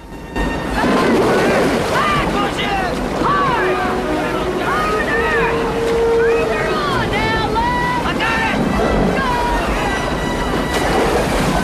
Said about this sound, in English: The water cascades down a series of steps in the riverbed, forming a narrow channel of foaming water underneath the sheer rock cliffs.